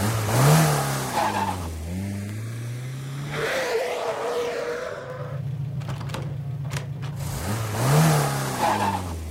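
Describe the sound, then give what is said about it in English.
A car engine revs loudly, its pitch climbing and dropping through several surges, idling briefly in between before roaring up again as it pulls away. No one speaks. “Well, take a car or something, you right.”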